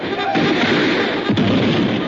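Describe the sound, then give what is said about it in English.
Cannon fire booms from a fort in a dense, continuous barrage, a heavy rumbling roar with one sharper blast standing out near the end, loud. “Dan, touch off that cannon. Fire all the cannon.”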